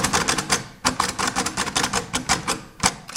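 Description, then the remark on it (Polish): Rapid typewriter keystrokes clatter in a fast, uneven stream of sharp clicks as someone types quickly on a card in the typewriter, with a brief pause near the start of the second second before the typing resumes. “Teraz postaram się napisać szybciej.”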